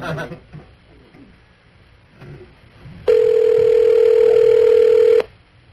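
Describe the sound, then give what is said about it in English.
A telephone line rings: one loud, steady electronic ringback tone holds for about two seconds, then cuts off, preceded by a quiet stretch of faint background noise. “Spit that whiskey biscuit out and get to the phone.”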